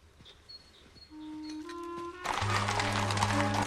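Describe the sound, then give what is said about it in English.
Scattered hoofbeat-like clops and rolling wheels build into the loud, dense bustle of a busy London street, with a low rumble underneath as horses and carriages pass. “Worthing negotiates a busy street that's bustling with horses and carriages”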